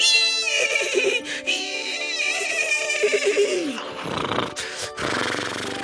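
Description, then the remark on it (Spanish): A horse that had not been well broken whinnies loudly as it bolts with a young man on its back. It gives a shrill, quavering call that slides downward in pitch, followed by rough, breathy snorting bursts. No one speaks. “Tan pronto como el caballo sintió al hombre sobre su lomo, se desbocó.”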